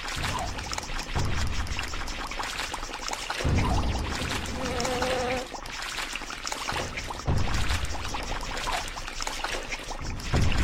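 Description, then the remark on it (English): Loud, continuous rushing and pouring of water from a geyser, surging in waves with a churning, splashing texture and brief tonal gurgles, with no voices present. “Get past that geyser.”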